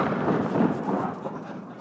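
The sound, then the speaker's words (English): The noon cannon on the Lutschak Tower in Zagreb fires at exactly 12 o'clock, as it has daily since 1 January 1877: a deep, loud rumbling boom, sustained and fairly even for almost two seconds before easing slightly, with no voices. “That was the Greek cannon on the Lutschak Tower. It fired because it's exactly 12, and it has been doing that every day since the 1st of January 1877, in the memory of an event in Zagreb's history.”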